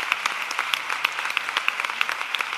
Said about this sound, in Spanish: Antón Fraguas no recibió en vida este aplauso que merecía.